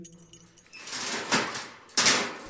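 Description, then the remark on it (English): Keys jingle and a lock clicks, followed by the clunk and rattle of a dungeon door being pushed open, two sharp metallic bursts with no one speaking. “Then let's change things. Just open the door.”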